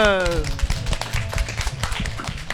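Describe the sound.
An audience breaks into steady applause, a dense, continuous patter of many hands clapping for a few seconds, with a voice briefly trailing off at the very start.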